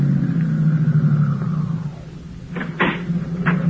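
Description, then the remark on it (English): A car engine idles with a steady, low rumbling drone that fills the whole stretch, joined near the end by a few short, sharp clunks over the hum. The motor is kept running because the car's battery is down. “Say, my battery's down, so just keep the motor running while I'm gone, will you?”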